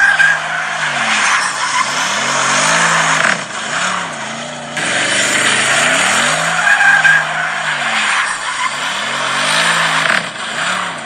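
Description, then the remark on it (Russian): A Bentley's engine roars and accelerates in repeated surges, its pitch climbing and dipping with each push, loud throughout over a hissy, tire-squeal-like wash. The sound is thin and tinny, as if played through a phone speaker. “Какая тяга у этого автомобиля!”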